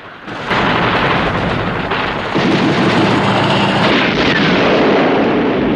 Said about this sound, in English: As an army helicopter is blown up by the gun turrets, Bond drops a rope through the manhole and climbs down it.